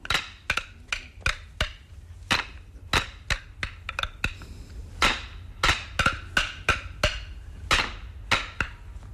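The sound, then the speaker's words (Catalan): Wooden sticks clack together again and again in a brisk, rhythmic pattern during a demonstration, each strike sharp and bright with a short ringing knock, some hits coming in quick pairs, with no voices. “I no se li ha escapat mai el bastó, amb ell?”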